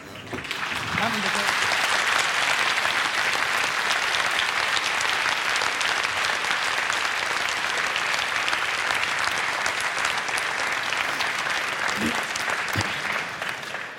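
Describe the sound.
Sustained audience applause fills the whole stretch, a dense, steady patter of many hands clapping at even loudness, with a few faint voices briefly audible underneath.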